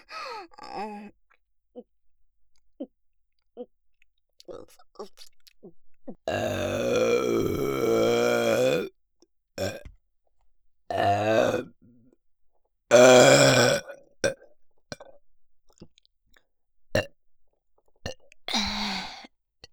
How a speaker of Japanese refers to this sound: ザーメン飲んで、ど下品なゲップ出すの、興奮しちゃう。